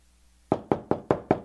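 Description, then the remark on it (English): Five sharp, evenly spaced knocks on a door, loud and percussive with a quick decay after each, following a brief quiet moment with no voices, introducing a 'Dummy of the Week' segment. “Who's there?”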